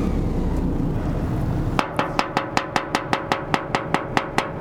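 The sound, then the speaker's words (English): A low rumbling drone gives way to a rapid, steady run of about a dozen sharp metallic bangs on the side of a stranded ship's hull, each hit ringing with a resonant clang. “And that's him banging on the side of the ship.”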